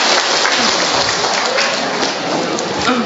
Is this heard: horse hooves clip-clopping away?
no